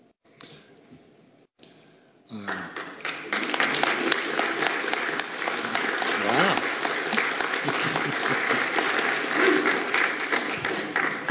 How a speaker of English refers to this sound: You don't always get rounds of applause for presentations, so nice.